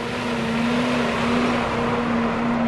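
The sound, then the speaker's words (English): A feed truck drones steadily as it rolls by dumping feed into the bunks at the Van Housen feedlot in Nebraska, its engine a constant low hum with a sustained mechanical whine and a broad rushing, pouring noise over it, no talking. “A feed truck rolls by, dumping feed into the bunks at the Van Housen feedlot in Nebraska.”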